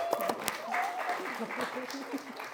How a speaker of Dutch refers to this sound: Welkom, mag ik een applaus?